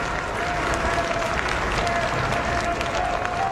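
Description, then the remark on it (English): A crowd gathered outside the hospital cheers and applauds as Pope Francis, in a wheelchair on the balcony of his room, blesses them: a steady, dense wash of clapping and mixed voices, holding at an even loudness throughout, with a thin high tone briefly threading through. “onto the balcony of his room in a wheelchair and blessed the crowd gathered outside the hospital.”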